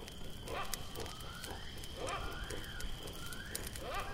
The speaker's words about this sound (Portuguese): Para entender o que uma coisa tem a ver com a outra, a gente vai voltar no tempo e sentar em volta dessa fogueira.